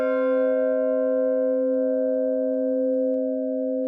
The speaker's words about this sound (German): Und die Form der Glocke ist quasi so entwickelt worden, dass man Intervalle hört, die irgendwo ja, in unserem Gehör sich harmonisch anhören. Wenn wir also unten die Glocke anschlagen, den Ton kennen wir.